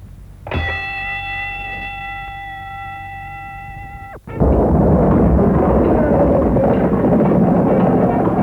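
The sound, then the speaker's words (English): A loud, clear bell rings out in one long sustained tone for several seconds to start a fight, then stops abruptly as a burst of harsh, chaotic noise and rumbling commotion takes over. “On the bell, we'll fight them.”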